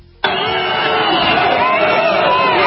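A large crowd of Trump supporters at the Capitol suddenly erupts into loud booing and chanting "That's Antifa" as a man smashes a window, many voices blending into a dense, sustained roar that carries on steadily without letting up.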